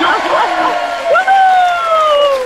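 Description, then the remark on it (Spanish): Three people yell together in loud, drawn-out shouts, the first bursts wavering before one long cry that slowly slides down in pitch and fades at the end. “Hombre, no han estado los gritos a la altura de 3 tazas, también te digo.”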